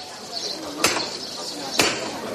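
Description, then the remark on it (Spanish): Two sharp, ringing hammer knocks about a second apart, loud, standing out against a quiet, faintly murmuring background, in a packed, hushed plaza in Seville, Spain, at dusk. “Tres toques de martillo.”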